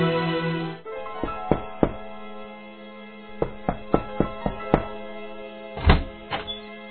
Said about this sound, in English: At Rex's apartment, an angry Ellie has just arrived and knocks on the door.